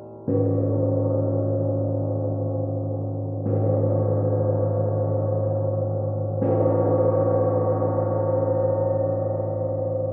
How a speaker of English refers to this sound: Sound is a chow gong in celebration of Westmore.